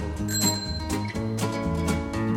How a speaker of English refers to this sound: Ding dong ding, hear the bicycle bell. Ding dong ding, hear the bicycle bell. It's a sound we all know well, the ding dong ding of the bicycle bell.